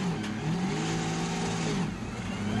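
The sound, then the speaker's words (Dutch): A Maserati MC12 sports car engine revs as the car is loaded onto a truck in Paris during the seizure of a car fleet, its loud, steady rumble rising and falling in pitch over a few seconds, with no voices. “Een Maserati MC12 op een vrachtwagen laden.”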